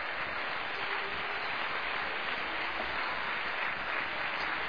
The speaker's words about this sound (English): Would you clap for the Lord tonight for just a moment with all of your heart?